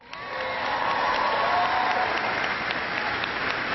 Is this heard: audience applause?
yes